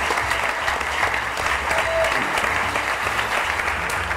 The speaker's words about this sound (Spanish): No perdamos más el tiempo, con aplausos tontos, y veamos de qué va el tema en el que hablaremos en el día de hoy.